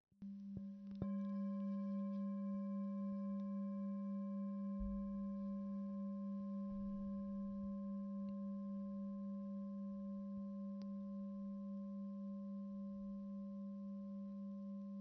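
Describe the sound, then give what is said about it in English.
A meditation bell is struck once and rings out with a steady, pure hum and bright overtones, its tone lingering and fading very slowly over the whole stretch. No one speaks. “Noticing the sound of the bell passing through time.”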